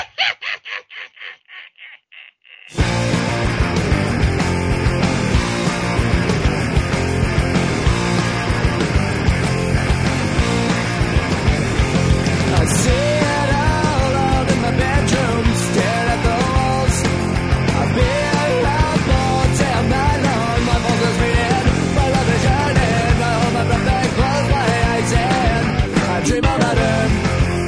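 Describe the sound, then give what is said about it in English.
A loud, dense rock-style music track kicks in after a brief intro of repeated harsh, cawing-like bursts, then plays continuously with driving drums and full instrumentation to the end. “this is the new track by …, …”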